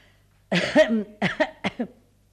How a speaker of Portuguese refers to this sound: Nem mesmo a minha tosse faz olhar para mim.